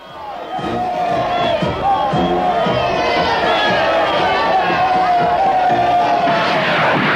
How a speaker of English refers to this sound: Once more there was cheering in the home ports. It would be the last time.